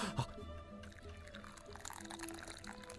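Boiling water poured steadily into a cup for tea by the show's producer during a tea-time segment, a continuous stream with a rising filling tone and a small clink at the start, no voices.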